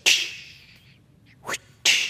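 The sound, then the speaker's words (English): Three sharp whip cracks during a tiger act in a great big cage, in complete darkness after a power outage, with no talking: a loud snap, a softer one after a pause, then another loud crack close behind, each trailing off in a hissy echo. “The power went out, and it went completely dark. Completely dark. And all you could hear was the whip.”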